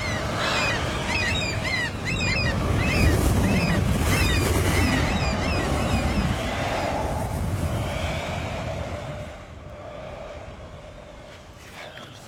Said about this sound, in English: Huh? What's that? What's what? Up there, on the water. The whirlwind.